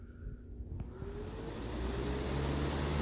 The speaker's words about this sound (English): I've been wanting me a box fan, so I got this box fan today. And I've got it pointed right over there toward my recliner, so it'll blow on me. Yep. Do you like it? No, we don't need a box fan. Listen at it. Listen at it purr.